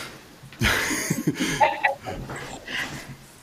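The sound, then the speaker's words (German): A Border Collie office dog, seeking attention at 9 in the morning in an office, whimpers and lets out a few short, high yips between snuffling, breathy sounds, moderately loud, with no one talking. “Okay, stimmt, ich habe ja vorher schon gehört, ich sage, es klingt wie ein Monster, aber nein, er war einfach nur aufmerksamkeitsbedürftig, offensichtlich.”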